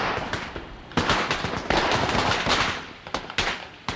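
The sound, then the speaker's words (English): Rapid strings of firecrackers crackle and pop in dense, overlapping bursts, loud, with sharp individual bangs punctuating the continuous rattle for the whole stretch, set off on Lunar New Year's Eve (Tet) in Ho Chi Minh City (Saigon). “They love fireworks here. On New Year's, a family will go through a small arsenal of explosives.”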